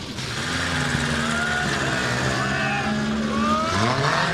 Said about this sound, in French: Les voitures s'ébranlent sous les applaudissements, direction Paris pour commencer. Certaines des 4L ont déjà roulé pour le trophy, mais la plupart des pilotes ne connaissent pas encore la route.